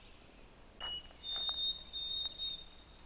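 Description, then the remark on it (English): A white-throated sparrow's clear, thin whistle song, faint against a quiet background: one short lower note, then a long, steady higher note that wavers slightly before fading. “They sing that clear whistle song, Old Sam Peabody, Peabody.”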